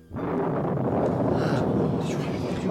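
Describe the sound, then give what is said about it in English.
A loud, deep thunder-like rumble, heard under a cloudless sky during a baptism in water, starts abruptly and rolls on steadily for nearly three seconds, heavy in the low end with a rough, roaring texture and no voices. “It sounded like thunder.”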